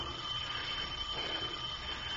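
A doorbell rings without pause on a rainy night, a harsh, steady electric jangle that holds one level for about two seconds, with no one speaking over it.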